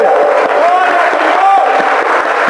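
A large crowd in Mexico applauds and cheers loudly and continuously, giving the Lord a hand: dense clapping mixed with shouts and whoops, with no pauses.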